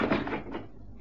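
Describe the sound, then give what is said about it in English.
A door shuts with a single dull thud and a brief rattle, then the sound fades into quiet. “Come in. Close the door.”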